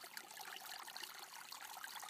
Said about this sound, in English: So take a moment just to listen to the sound of the water here in the Dublin Mountains.